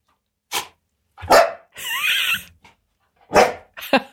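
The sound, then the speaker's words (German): A dog barks several times as a goodbye to listeners, in short loud bursts with a drawn-out whiny yelp in the middle, separated by brief silent pauses. “Stella, sagst du unseren Hörerinnen noch auf Wiedersehen in der Hundesprache?”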